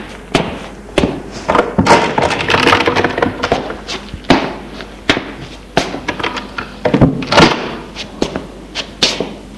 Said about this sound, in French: Il le mène au sous-sol par un escalier raide et humide. En bas, il ouvre une porte.